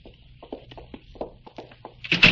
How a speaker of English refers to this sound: Stop. Open the door. Go ahead.